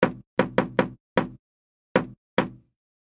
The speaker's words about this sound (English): 2. She rapped on the door.